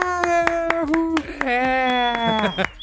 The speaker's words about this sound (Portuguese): salva de palmas pra você, por favor, bancada.